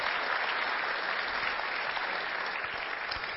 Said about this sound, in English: And please give some applause on that line because it's too good not to get it.